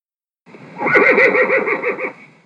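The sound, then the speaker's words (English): A horse whinnies loudly, a single wavering neigh lasting about two seconds with a rapid trembling pulse before it fades out. “Say after me. A horse.”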